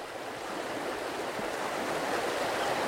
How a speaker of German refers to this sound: Damit das Wasser auf den Viehweiden und im Wald abfließt, haben die Menschen im Land der tausend Seen schmale Kanäle gebaut. Und die sind im Frühjahr nach der Schneeschmelze oft verstopft und müssen mit der Schaufel vom Schlamm befreit werden.